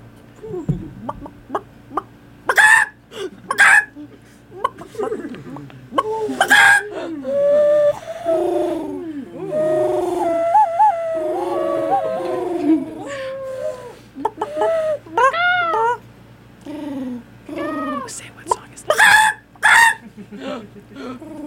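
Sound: person imitating bird calls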